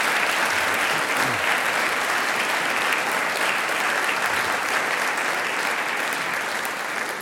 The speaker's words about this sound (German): Danke, großen Applaus für den Herrn Bürgermeister.